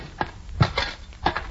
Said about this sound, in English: Hey, that lock's all rusty. Knock it off with your shovel and we'll see what's in this thing.